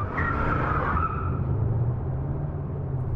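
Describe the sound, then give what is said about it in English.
A car driven real fast peels away with a loud, high tire squeal that fades after about a second, leaving the engine's steady low roar accelerating. “We're going real fast, Mr.”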